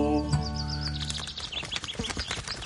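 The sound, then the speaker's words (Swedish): A crow calls with a quick series of short, scratchy bursts, fairly loud, following a brief sustained tonal sound; no one speaks. “Hej kråkan, kommer du?”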